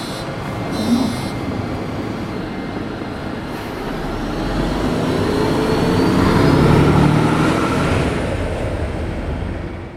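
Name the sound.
city bus ride interior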